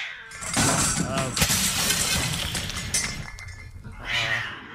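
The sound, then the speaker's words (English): A mirror shatters in a loud, bright crash in a studio, mixed with a black cat's meowing and the clattering of a knocked-over ladder in a busy burst of noise lasting a few seconds. “In fact, we wouldn't even care if a black cat entered the studio, knocked over a ladder, and broke our mirror.”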